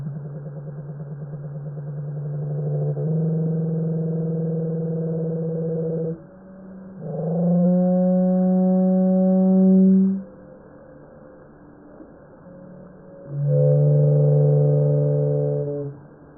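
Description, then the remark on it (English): An Australian pygmy blue whale call: long, low, droning tonal moans in three parts, a steady hum that shifts pitch, then a rising harmonic sweep, then a final deep tone, with no voices. “That was an Australian pygmy blue whale.”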